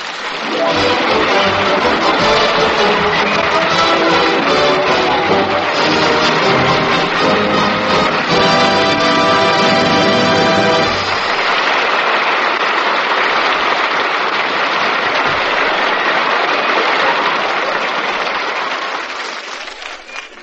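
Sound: studio audience applause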